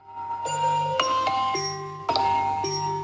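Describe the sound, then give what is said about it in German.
An alarm clock ringtone, set to go off at 3:50 in the morning, plays a bright electronic melody of stepped, chime-like tones that change pitch about twice a second, with the short phrase starting over partway through. It is steady, fairly loud, and has no talking. “Ja, das ist nämlich mein Weckerton, nicht zu überhören.”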